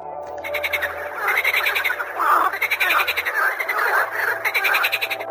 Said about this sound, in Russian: С другой стороны, с маленькой лесной речушки доносится песня веселых лягушат.